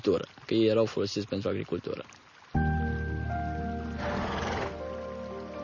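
A horse, one of the former work horses now living free on an island, lets out a loud whinny, a quavering, rapidly pulsing neigh lasting about two seconds. A steady droning tone then begins abruptly, with a brief rushing hiss partway through.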